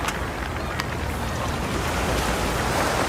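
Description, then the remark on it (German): East River water laps and washes steadily against a park waterfront, right at the water's edge, a continuous splashy rush with a low rumble of wind or a passing boat underneath, with no talking. “Man ist hier direkt am Wasser, das hört man, das hat was sehr Entspanntes, dazu eben dieser geniale Blick rüber.”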